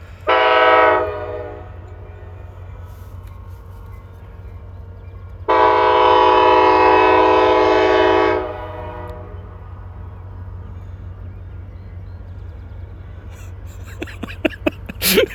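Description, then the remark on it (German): A deep, loud train horn sounds twice, a short blast then a longer sustained one, over the steady low rumble of a train rolling past, with some clanking near the end. “Dieses wirklich tiefe, unüberhörbare Tuten vom Zug. Der rollt jetzt hier auch gerade lang.”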